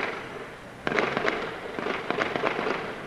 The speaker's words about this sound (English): The sound of gunfire as a team of heavily armed militants invaded India's biggest city.